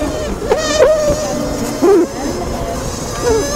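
Asian honeybees sounding an alarm to warn their hive of an attack by giant murder hornets: a steady, dense hive buzz broken by a few short, warbling, rising-and-falling piping bursts that swell louder, then fade back into the drone.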